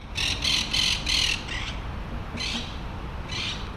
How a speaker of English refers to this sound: Someone lose like five parrots? Like, I didn't know that there were parrots here. Today, we're on a street in New Haven observing some monk parakeet nests. The birds are green, about the size of a robin, and they're very chatty.